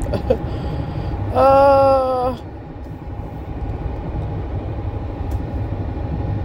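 Steady low road rumble and engine drone fill the inside of a car cruising at highway speed toward Wisconsin, with a loud, brassy horn-like tone sounding once for about a second early on.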